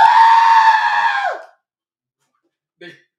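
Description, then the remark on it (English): A loud, sustained scream lasting over a second, steady and harmonic before cutting off with a sharp downward break, followed by silence and a brief faint voice near the end. “I don't like that scream.”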